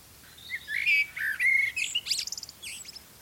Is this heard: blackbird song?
yes